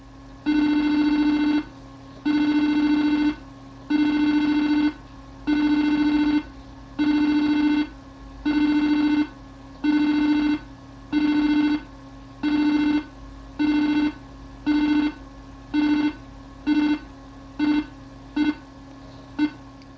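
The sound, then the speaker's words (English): A loud series of computer beeps from a home server using the beep command to signal backup progress: about sixteen buzzy, mid-pitched electronic tones that start long and evenly spaced, then grow shorter and quicker toward the end, with no talking. “Completion of the backup was signalled by six loud beeps.”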